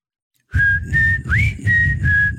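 A person whistles a slow song melody in clear, sustained notes with a quick upward slide in the middle, backed by a low, steady rhythmic accompaniment underneath.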